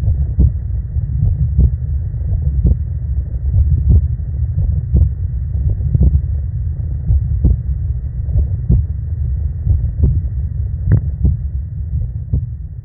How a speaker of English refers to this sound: So just to send us off, here's my unfortunate heartbeat.